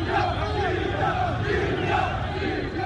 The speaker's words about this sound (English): When shots were heard in Tripoli's Martyrs Square Sunday evening, a few protesters scattered. Others cheered, arms aloft, shouting, "Libya! Libya!"